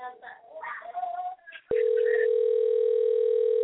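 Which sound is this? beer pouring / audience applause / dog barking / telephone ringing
telephone ringing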